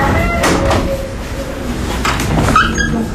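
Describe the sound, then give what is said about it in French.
A small door swings open with a brief rising squeak and a few soft knocks and rattles as someone enters a courthouse, set against a steady, fairly loud background hum of the courthouse's entrance hall. “Toujours rentrer par la petite porte.”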